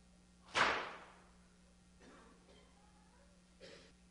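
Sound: whip cracking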